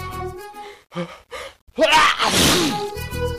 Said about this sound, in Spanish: ¿Sabías que...? El aire que sale por nuestra boca y nariz al estornudar va a más de 150 kilómetros por hora.